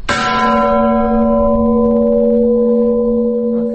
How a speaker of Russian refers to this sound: Например, вот самый низкий колокол на нашей колокольне. Если в него ударить просто, как человек впервые поднимется, ударит, скорее всего, у него получится такой дребезжащий звук. Ну-ка, особенно... я попробую.